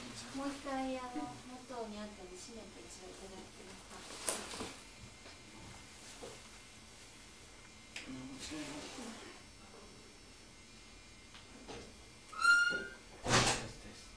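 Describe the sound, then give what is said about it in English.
A door creaks briefly and then shuts with a solid thud near the end, after people talk quietly and a couple of softer knocks sound earlier. “Would it be possible to shut the door as it was before?”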